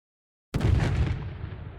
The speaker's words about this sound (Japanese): ここで再び何かが爆発する音が聞こえた。 今手榴弾が爆発しました。悲鳴が聞こえます。